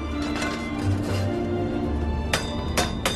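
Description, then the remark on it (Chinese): Iron wok being hand-hammered in Zhangqiu using the traditional wok-forging technique: three sharp, ringing metallic blows land in the final second, irregularly spaced, over a steady low droning background with no talking. “这项工艺历史悠久，早在汉代这里便是冶铁重镇，直到今天，这里仍保留传统铁锅打制技艺。”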